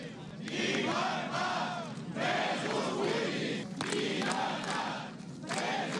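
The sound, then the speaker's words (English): About 100 Catalan firefighters shout 'freedom for political prisoners' in unison at a Monday protest in Barcelona against Article 155, chanting the slogan in repeated bursts with short pauses between, loud and continuous over six seconds. “Around 100 of Catalonia's firefighters shouting freedom for political prisoners gathered on Monday in Barcelona to protest against Article 155, which allowed the Spanish government to apply direct rule on the northeastern region”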